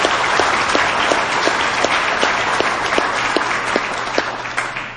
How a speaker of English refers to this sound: I just want to give them a round of applause. You've done an outstanding job this weekend.